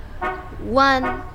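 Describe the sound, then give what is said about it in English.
Three short car horn beeps in quick succession from a car arriving to take someone to work, heard from a balcony, bright and brassy and loud, the middle honk slightly longer and bending in pitch. “Hear that car horn beeping?”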